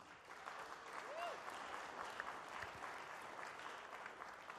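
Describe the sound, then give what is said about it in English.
A sustained burst of audience applause as the audience gives themselves a hand for being there, dense and steady, with many hands clapping at once and a few brief cheers or whoops rising above the noise. “For a second, give yourselves a big hand clap for being here.”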